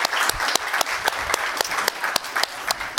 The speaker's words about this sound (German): Ihr habt ein Mikro und macht nochmal für die letzte Gruppe und für die kommende Gruppe einen Applaus.